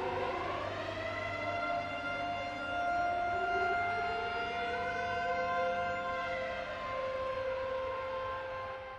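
A wailing air-raid siren, part of a music composition, rises and falls in slow sweeping pitch over a low droning musical bed, loud and sustained throughout, with no voices.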